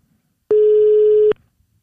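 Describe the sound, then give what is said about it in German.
A single ringback tone of an outgoing phone call made from an office: one steady, mid-pitched electronic beep lasting just under a second, loud and clear against silence, with no one talking. “Klingelt schon mal.”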